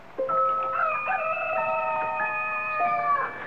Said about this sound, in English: Oh, I struggled back from layers deep, beckoned by a rooster somewhere, doing his thing. I hadn't heard one since I was a kid. And because he was far enough off, his raucous tone only brought me half awake.